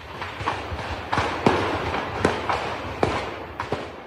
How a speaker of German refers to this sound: So klang es in den frühen Morgenstunden des 4. August im Berliner Grunewald. Munition und Feuerwerkskörper detonierten.